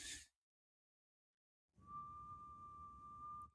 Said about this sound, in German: Sakko, mach mal bitte nochmal die Pfeife.